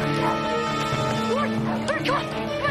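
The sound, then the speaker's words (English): A dog barks and yips in a run of quick, high-pitched bursts as it approaches, over a steady droning background that fills the whole moment. “The dog approaches. Here he comes!”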